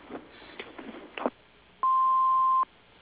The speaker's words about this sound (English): Hello, you've reached Coastal Landscaping. We're not able to come to the phones right now, but just leave your name and number after the beep. Thank you.